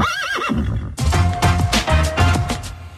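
horse neighing

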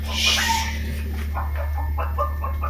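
chicken clucking

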